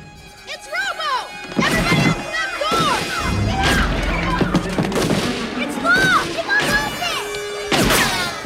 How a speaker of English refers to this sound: A man in a baseball uniform loads goods into his car. When a police car pulls up, he shoots at it. Lewis gets out, then ducks for cover while RoboCop's sitting in the passenger seat.